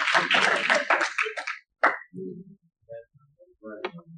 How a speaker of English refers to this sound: Somebody give me a hand clap.